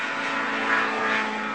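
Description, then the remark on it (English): A steady, droning airplane engine passes overhead above a park, with a broad rumbling roar and faint tonal hum that swells slightly in the middle. It is moderately loud and continuous, with no voices. “That's an airplane flying over the park.”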